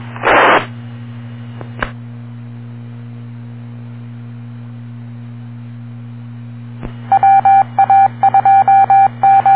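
A radio scanner channel carrying a transmission: a steady low hum throughout, a short burst of static at the start, then a rapid run of loud, choppy beeping tones with no voices.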